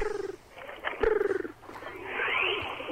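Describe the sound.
A voice on the Kevin and Bean Show, pretending to be a pigeon, imitates pigeon cooing with throaty, warbling, pulsed coos in short bursts, followed by a higher, rising trill, moderately loud with no speech.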